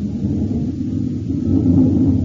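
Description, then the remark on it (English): The engine of a Northrop F-89D Scorpion, a U.S. Air Force fighter interceptor, roars steadily and loudly as its test pilot prepares to take off, a dense low rumble that swells slightly toward the end, with no voices present. “It's the roar of the Scorpion as he prepares to take it up.”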